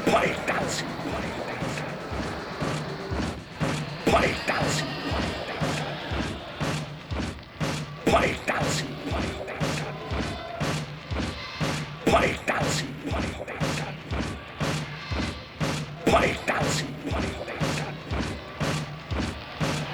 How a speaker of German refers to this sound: Gegenwehr hastiger Hände werden die Trommeln wach und wie im Traum poltern sie. Poltern.